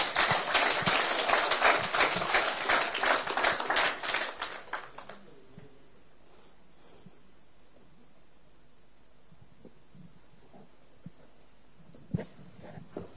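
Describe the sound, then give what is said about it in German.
A burst of audience applause for a young man who has come to the front after saying a prayer for the first time, dense and loud with many hands clapping, lasting about five seconds before fading into quiet background noise with a few faint knocks. “Und ich glaube, wir können dem jungen Mann mal einen Applaus geben.”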